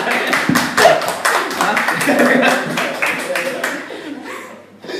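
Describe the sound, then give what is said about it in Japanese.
An audience claps together in a dense, steady burst of applause that carries for several seconds before thinning out, with some chatter and chuckling mixed in. “拍手の量ですから、 うん、 もう全力で拍手。”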